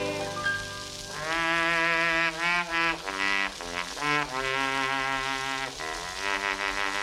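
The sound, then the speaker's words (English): A trombone plays a short, loud melody of sustained brassy notes, some joined by smooth sliding pitch bends, with brief breaks between phrases and no voices. “He played a song on his light trombone, and he always played it this way.”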